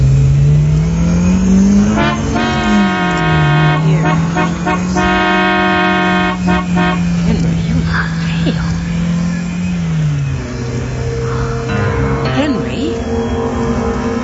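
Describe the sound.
A car engine roars loudly and steadily, its pitch climbing then dipping as it rushes past in a near miss, while a blaring horn sounds in long bursts and tires squeal near the end, with brief voices.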